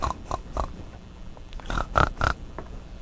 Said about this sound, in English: Hold on. That's peanut butter. You can't eat that yet. It's a pig.